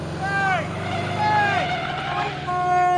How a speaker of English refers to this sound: The van speeds away.